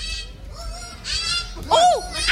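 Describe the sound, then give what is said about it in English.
A child imitates monkey sounds, making a string of high, squeaky hoots and whoops that rise and fall in pitch, growing louder with a sharp arching call toward the end. “He speaks monkey.”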